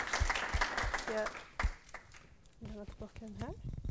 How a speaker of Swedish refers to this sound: Okej, vi får ge dig en applåd för alla dina bra idéer.